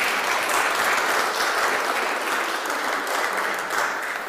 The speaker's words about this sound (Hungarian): És mindig mindenki, meg lehet tapsolni, nyugodtan.